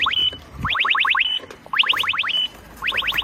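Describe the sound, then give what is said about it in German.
An electronic alarm chirp from an e-scooter sounds in repeated bursts, each a quick run of about five rising beeps followed by a short tone. It is the scooter's alarm system, set off when the parked scooter is lifted. It is loud and without talk. “und der steht da drin und du den anhebst, dann ist das sozusagen die Alarmanlage.”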